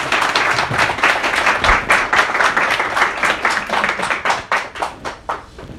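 A room full of people applauds warmly, a dense steady patter of many hands clapping that thins out into scattered individual claps as it fades toward the end.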